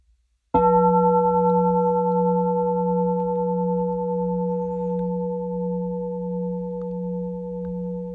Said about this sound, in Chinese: 我用磬声代表钟声，不管什么声， 只要是声音就能反显文性，这个才重要。